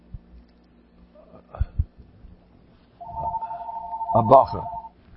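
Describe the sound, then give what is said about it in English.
A telephone rings with a steady electronic tone lasting about two seconds, fairly loud, preceded by a few soft thumps, with a brief voice cutting in near its end. “Somebody, I got a phone call.”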